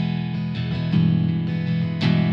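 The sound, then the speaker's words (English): An electric guitar played through an acoustic simulator on its B setting, alpine spruce, with a Strymon Flint adding a little reverb, plays a few bright, ringing strummed chords in quick succession, moderately loud, with no voices. “If I go to the B setting, it goes from spruce to alpine spruce.”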